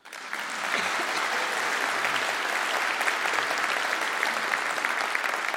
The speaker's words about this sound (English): If you knew how wrong that was, you wouldn't clap. But anyway, it was something like that.